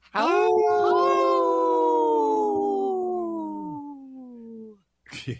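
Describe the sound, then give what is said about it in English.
On the Native Roots Radio show, a person imitates a wolf howl: one long, loud sustained wail that holds steady and then slowly slides downward in pitch before fading out, followed by a short burst of noise. “Good howl there”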